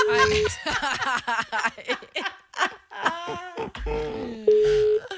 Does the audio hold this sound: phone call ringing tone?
yes